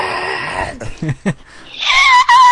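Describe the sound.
A voice imitates an eerie wail: a strained, breathy tone breaks into short vocal bursts, then climbs into a loud, sustained high-pitched squeal that holds to the end.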